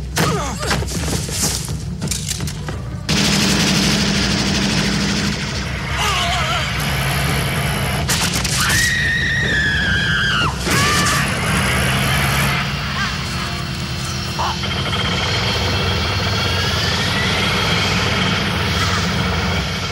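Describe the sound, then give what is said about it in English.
A loud helicopter engine drones continuously throughout, its heavy rumble layered with whooshing sweeps, a few thuds and brief muffled voices in a busy mix, from a James Bond film scene in which a woman is lowered from the helicopter on a cable. “So what happens in this scene is that Anna Top is lowered from a helicopter.”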